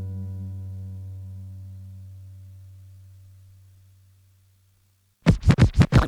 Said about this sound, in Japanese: 毎日レコードを前後させて喜んでます。